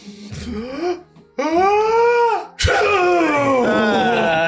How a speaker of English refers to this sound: Wait, son, you could sneeze? I guess so.